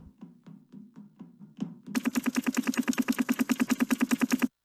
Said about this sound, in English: Oh man, that must be Metal Sides. Coming by helicopter.